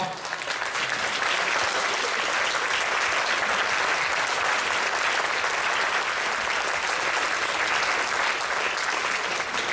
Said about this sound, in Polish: Gdyby coś, to ja brawo też biłem.